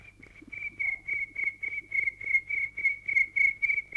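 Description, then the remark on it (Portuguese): A high, thin cricket-like chirping repeats in a steady rhythm, about ten pulses over a few seconds, clear, with only a faint low hum beneath and no talking. “Agora é a sua vez. Cante, Sr. Grilo.”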